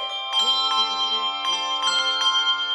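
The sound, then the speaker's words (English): Church bell ringers practise on a Wednesday night after the church supper, several strikes landing at an uneven pace while long, shimmering tones hang and overlap between them, clear with no voices. “The bell ringers practiced on Wednesday night after the church supper.”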